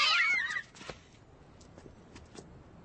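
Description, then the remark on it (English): A cat lets out one loud, high, wavering meow right at the start, then everything drops to a quiet background with a few faint taps and clicks. “why don't you put that cat of yours on a leash?”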